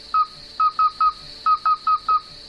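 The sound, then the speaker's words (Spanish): Midwife toads calling: eight short, clear, piping notes at the same mid pitch, repeated in an uneven rhythm over a steady, faint high-pitched drone, with no voices. “Hoy quiere hablarnos, gallego, del sapo partero.”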